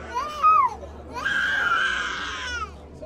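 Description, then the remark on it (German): A small child wails in two bursts at a child health check during a drought: a short rising-and-falling cry, a brief pause, then a longer, strained high-pitched cry that holds before breaking off. No speech is heard. “Erst als wir in Richtung Kindergeschrei gehen, wird es ernst mit der Dürre.”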